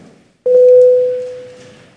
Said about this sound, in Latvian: Deputāti, lūdzu balsojumu. Lūdzu zvanu. Balsosim par trešo ārlietu komisijas iesniegto priekšlikumu.